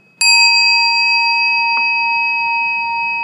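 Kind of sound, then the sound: signal or alarm, bell ringing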